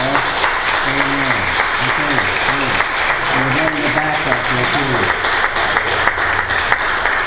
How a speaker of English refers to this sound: If you're a veteran and you served in the war or you served in the country's military, please give these guys a round of applause.